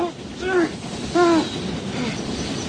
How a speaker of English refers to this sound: Listen... There's another train coming! There's another train coming!